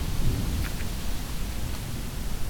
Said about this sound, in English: And it's not raining too badly yet. Windy. Very windy. It had been raining earlier.